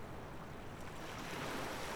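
ocean waves breaking

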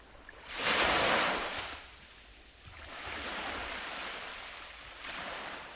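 gentle ocean waves

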